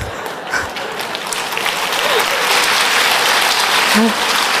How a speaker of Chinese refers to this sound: 好啊，大家拍手掌